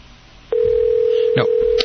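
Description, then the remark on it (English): A telephone ringing tone on a call starts after a brief pause and holds as one steady, fairly loud electronic pitch, with a couple of short crackling bursts over it. “A little ringing there.”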